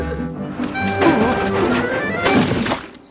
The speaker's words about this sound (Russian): Неожиданно часть посылок выпала из грузовичка и упала прямо в лужу на дороге.